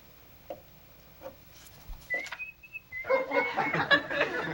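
A person whistles a few short, clear notes of a tune for about a second, then loud laughter from an audience breaks out and carries on to the end.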